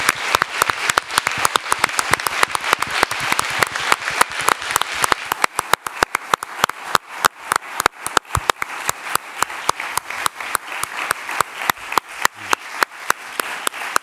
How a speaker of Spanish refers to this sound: Y acabo aquí la rueda de prensa y pido un fuerte aplauso para nuestro premio Donosti. Aplauso.